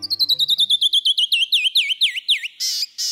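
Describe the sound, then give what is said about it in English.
A canyon wren sings a cascading series of clear, whistled notes that start rapid and high, then slow and drop in pitch, ending in a few buzzy calls; loud, no voices. “When a canyon wren sings, the brilliance of its descending notes can stop you right in your tracks.”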